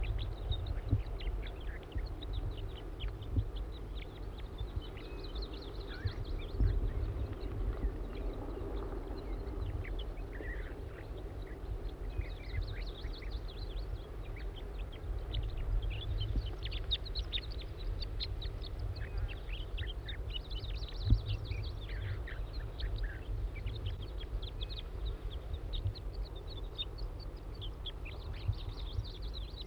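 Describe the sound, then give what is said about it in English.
A juvenile wild bird calls over and over in short, high, chirping bursts that come in clusters, above a steady low rumble throughout. No one speaks. “It's recording the juvenile again.”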